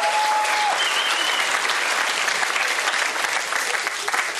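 Sustained, dense applause from a contest audience as the third contestant, from Moscow, is introduced, steady and loud throughout the whole stretch, with a faint tonal whistle-like line briefly audible at the start.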